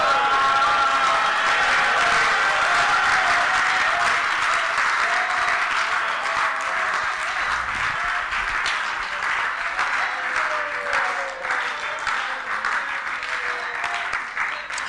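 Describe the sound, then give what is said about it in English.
An audience claps steadily in a dense, sustained wash of applause, with shouts and raised voices mixed in throughout, staying loud for the whole stretch. “Clap and shout.”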